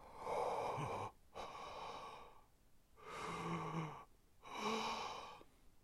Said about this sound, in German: Da liegt sie, die Augen geschlossen. Stirn und Wangen sind dunkelrot. Schwer atmet die alte Frau.